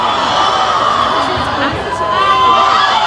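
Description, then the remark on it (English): A live audience in Portland shouts out together, a loud, continuous wash of overlapping voices and cheers that fills the whole moment with no single voice standing out. “It just sounds like shouting.”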